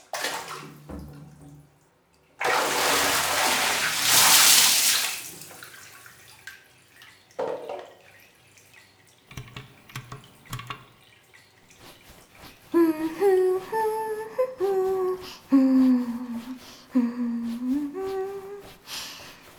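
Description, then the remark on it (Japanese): Bath water gushes loudly for a couple of seconds as a bath is run for bathing, then settles into quiet trickling and a few scattered drips, with a soft melodic voice humming near the end. “さ、試着はおしまい。お風呂に入らなきゃ。”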